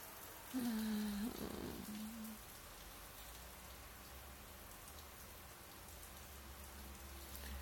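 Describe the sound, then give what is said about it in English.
Steady rain patters on a tent in a continuous, even hiss of drops, with a brief low humming tone near the start and no talking. “Your arms feel so nice around me, and I love the sound of rain on the tent.”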